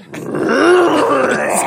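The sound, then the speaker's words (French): A cheetah growls in one drawn-out, moaning call whose pitch wavers up and down, loud for about a second and a half, with no voices. “C'est quel félin, ça? Le guépard.”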